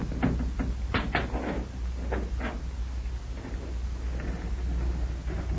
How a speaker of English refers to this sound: The door looks like it was stuck to the sides. All the way around. Yes, except on the bottom. Here, put your hands flat against the door, and we'll try pushing down on it.